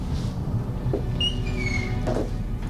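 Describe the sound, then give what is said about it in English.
A door creaks with a high, drawn-out squeak as it swings, followed by a muffled thud as it shuts, in a scene from the film Only God Forgives, against a low background rumble. “Get the door.”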